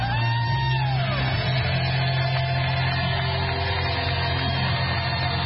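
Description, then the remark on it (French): A large crowd of delegates at the Republican convention in Milwaukee roars continuously, giving Donald Trump a long standing ovation as he arrives: a dense wash of cheering, yelling and whoops that stays loud and steady throughout, with a low sustained hum underneath and no clear individual voices. “Pansement sur l'oreille, Donald Trump est arrivé lundi à la convention républicaine de Milwaukee, accueilli par une foule survoltée qui l'a longuement ovationné debout.”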